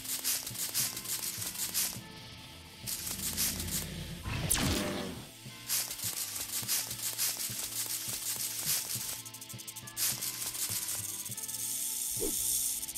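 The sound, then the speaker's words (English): Repeated bursts of a harsh, hissing video game snake sound effect in a Wild Woods level, over continuous game music, with a brief sweeping swoosh in the middle; loud. “We also need to watch out for snakes.”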